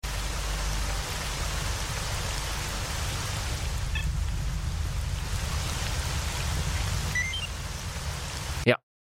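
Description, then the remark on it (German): Steady, dense rain hisses throughout at a damaged reactor somewhere in Ukraine, with a few faint, short electronic beeps from a PDA chirping through it midway and again near the end before the sound cuts off abruptly. “Das ist irgendwo in der Ukraine bei Regen an einem havarierten Reaktor. Und dieses Gepiepse, was wir hören, ist unser sogenannter PDA.”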